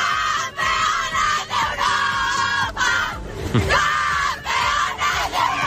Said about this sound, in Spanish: Es un día para admirar el talento de nuestras deportistas, para celebrar junto a la selección sub-19 de fútbol, que son eso que ellas están vitoreando aquí, campeonas de Europa.